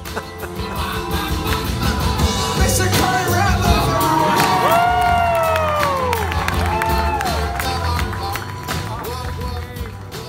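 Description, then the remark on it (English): A large audience at the end of a show roars and cheers continuously, chanting a name, with individual voices shouting and calling out in long, drawn-out tones above the dense, steady din of the crowd. “The show ended, and I walked through the crowd with the audience chanting my name.”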